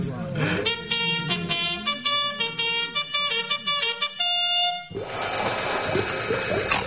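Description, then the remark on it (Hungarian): A horn is blown in a series of loud, bright blasts with shifting pitches for several seconds, then gives way to a burst of noisy commotion. “Fújd meg a kürtöt!”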